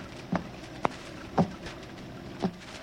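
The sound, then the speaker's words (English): Four light taps on the door to a room, spaced unevenly over a few seconds, fairly soft against a quiet background with no one speaking. “There's someone tapping on the door to our room.”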